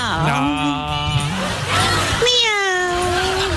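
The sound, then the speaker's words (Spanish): A female kitten gives two long, drawn-out meows, the second rising sharply before trailing off, loud with a faint steady hum in the background. “Con esta gatita no quiero más.”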